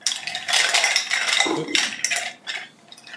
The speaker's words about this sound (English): And mix it around. Let's give it some stirs.